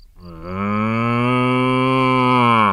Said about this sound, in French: Dans la ferme de Jojo, il y en a des animaux. Il y a Valentine, la vache, qui fait...